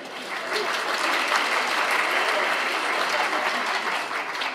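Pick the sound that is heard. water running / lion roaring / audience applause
audience applause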